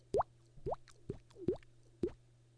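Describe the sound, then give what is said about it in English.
A voice makes five hollow, upward-sliding plops with the mouth, imitating falling raindrops, spaced roughly half a second apart over a faint steady hum. “It doesn't sound too good on a microphone, but it's, like, the raindrop thing.”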